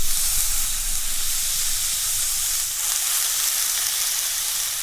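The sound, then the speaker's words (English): A steady, loud sizzle of a burger patty frying in a hot pan, a continuous crackling hiss with no pauses and no voices. “That's a real sizzle.”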